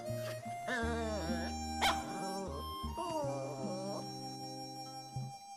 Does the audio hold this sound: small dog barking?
yes